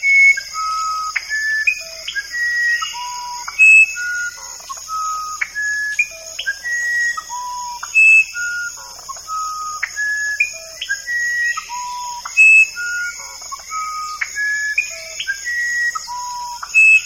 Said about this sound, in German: Dies ist der flötenartige Gesang des mittelamerikanischen Orpheus-Zaunkönigs, dessen Tonfolge ein wenig an ein Telefonsignal erinnert, doch der Vogel variiert seine Melodie immer wieder ein klein wenig.